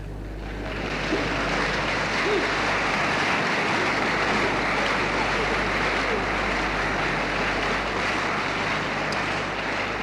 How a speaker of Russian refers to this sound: Конечно, мне очень приятно принимать ваши аплодисменты не только как исполнителю, но и как автору всех этих произведений.